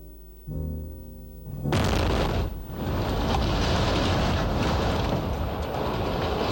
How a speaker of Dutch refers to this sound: Met een enorme klap ging in Den Haag het Huis van Bewaring tegen de vlakte.